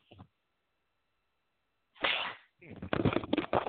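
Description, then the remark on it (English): A loud sneeze bursts out after a brief pause, with a short breathy intake before it, followed by a person starting to talk again. “Excuse me, I had to sneeze there.”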